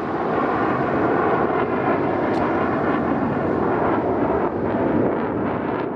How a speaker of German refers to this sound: Ein Kampfjet, eine FA-18 der Schweizer Armee, startet in Payern, praktisch vor der Haustür